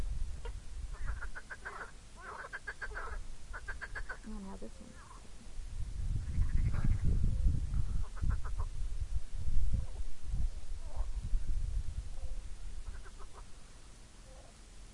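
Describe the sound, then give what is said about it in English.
Bladder frogs, acting aggressively toward each other, call in short bursts of rapid, clucking pulses, several in a loose series, one under a mustard bush, with quieter calls trailing later while people talk softly over a low outdoor rumble. “I bet these are the bladder frogs they mentioned.”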